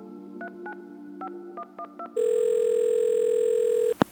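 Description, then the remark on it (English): A telephone being dialed: a quick run of touch-tone beeps, then a long, steady ringing tone on the line that ends abruptly with a click. No one speaks. “He called Raymond DeLeo.”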